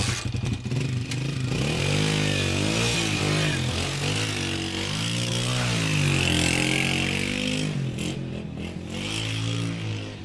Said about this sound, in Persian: درست شد موتور؟ چطور؟ برم یه دور بزنم.